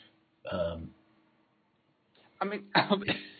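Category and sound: human body sound, coughing and throat clearing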